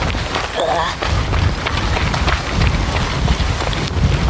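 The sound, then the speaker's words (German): Heavy rain pours down in a dense, steady hiss, mixed with low rumbling gusts of wind buffeting the microphone and occasional rustling thumps, with no clear speech. “Und ja, es regnet jetzt sehr, liebe HörerInnen.”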